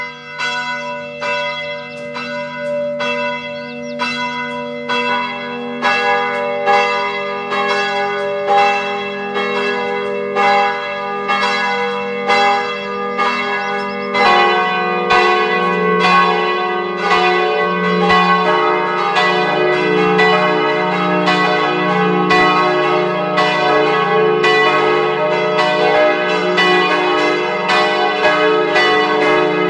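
Several church bells of the parish church of Frauenthal in West Styria peal together at noon in a steady, overlapping rhythm, loud and resonant with rich ringing overtones, a deeper bell joining partway through to fill out the sustained chime.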